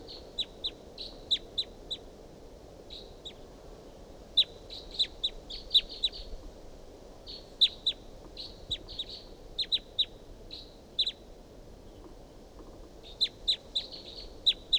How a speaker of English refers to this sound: It's up in the top of this tall pine above the truck, pointed up at the wild bird. Wild bird calls, responds by decoys. Chitter by the wild bird. Recording calls of the wild bird.